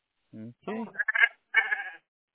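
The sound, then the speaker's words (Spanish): Goats bleat a few times in quick succession, wavering, nasal calls, moderately quiet, heard from behind the speaker, with no other sounds around them. “Ahí atrás oigo las cabras, ¿eh?”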